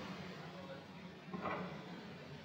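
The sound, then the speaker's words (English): A door to an office is opened: one brief rattling, creaking burst midway through, over a steady background hiss, with no clear talking. “So I opened the door, and there he is, sitting there, thinking away.”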